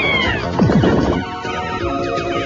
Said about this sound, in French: Très cool ce shoot'em up de Konami sur Super Famicom. Regardez-moi ces petits poussins. Et écoutez-moi ces cris déchirants.